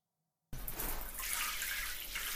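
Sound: shower running water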